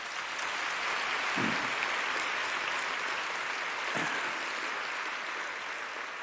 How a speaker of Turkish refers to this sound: Önce ayaklarınıza sağlık, sonra alkışlayan ellerinize sağlık. Hoş geldiniz efendim.